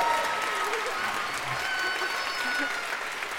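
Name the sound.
audience applause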